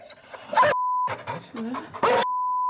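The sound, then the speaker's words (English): Panting dog-like vocal sounds and muffled talk from a sample of a dog collar that voices what a dog is saying, twice cut off by a flat, steady censor bleep, a short one midway and a longer one at the end. “Look, they got your dog on the website. You want a sample?”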